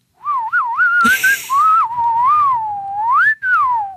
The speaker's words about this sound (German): Ich glaube, es wird gepfiffen in diesem Ton.